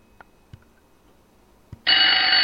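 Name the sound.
telephone ringing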